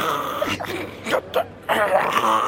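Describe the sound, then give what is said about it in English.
A person vocally imitates a partner's snoring with a few rough, rasping groans in quick succession, fairly loud, with no other sounds around them. “What does it sound like when your partner snores? Like a train leaving a station. Like someone dying.”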